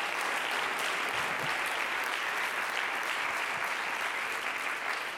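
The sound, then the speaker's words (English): A crowd of people clapping their hands, a dense, steady wash of applause that stays loud and even for several seconds with no voices standing out. “Clap your hands, all ye people.”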